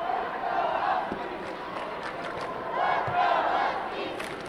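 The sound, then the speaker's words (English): About 1,000 blue- and red-clad supporters at the Charleston Civic Center scream and cheer continuously for Hoover's varsity basketball team at the Sweet 16 state tournament, a dense wall of high-pitched voices that swells twice, steady and loud throughout with no individual words standing out. “On the far side of the Charleston Civic Center, about 1,000 blue and red clad supporters scream their support.”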